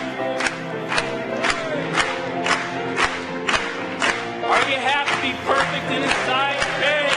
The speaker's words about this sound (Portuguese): Louvado seja Deus. Vamos bater palmas para Ele.